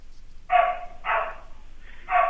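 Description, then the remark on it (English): Three loud, sharp dog barks at uneven intervals in a dog grooming salon holding five or six dogs, with a low background hum between them and no one talking. “In my grooming salon? Yeah. I have like 5 or 6 dogs in here right now.”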